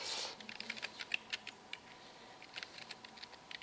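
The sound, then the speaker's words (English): Quick, uneven clicking of keys on a computer keyboard while searching on Yahoo, fairly quiet, with short bursts and brief pauses between strokes and no one speaking. “I keep typing in the wrong place.”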